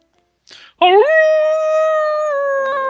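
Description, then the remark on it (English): A person imitates a wolf howl: a quick breathy intake, then one loud, sustained, rising howl that holds steady for about two seconds, with no other talking. “It is I, …, half wolf, half man”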